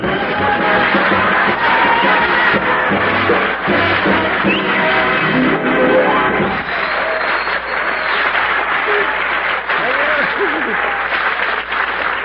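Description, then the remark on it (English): Sustained applause from a large live studio audience of the Raleigh Cigarette Program radio show starring Red Skelton, loud and steady throughout, with dense clapping and a faint murmur of voices mixed in. “I wonder what would happen some night if we didn't tell you to applaud when we told you to.”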